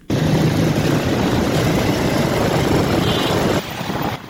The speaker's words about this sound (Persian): این شارع از 6 روز بعد این صبح بروی ترافیک مسدود گردیده است. به صدا موتر باربری و مسافربری در دو طرف روستای شمالگاه